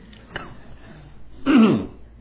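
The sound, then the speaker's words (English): A short click-like sound, then after a pause a loud, gravelly throat clearing of about a second, with no talking around it. “Why do I always get these frogs in my throat?”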